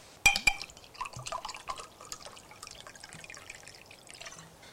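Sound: liquid being poured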